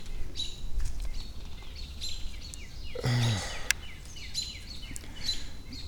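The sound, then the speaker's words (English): Several birds call in agitated bursts of sharp chirps and chatter, repeating quickly, with a louder harsh call cutting in midway over steady outdoor background noise. “I can still hear birds freaking out.”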